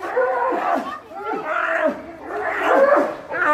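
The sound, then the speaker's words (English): Sloth bears yelling in a territorial fight: loud, harsh, overlapping bellows and roars rising and falling in three or four ragged surges, with no pause between the outbursts. “You'd be hearing a lot. Specifically, yelling. Something like this.”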